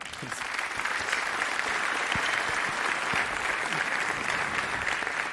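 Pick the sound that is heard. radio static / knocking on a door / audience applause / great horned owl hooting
audience applause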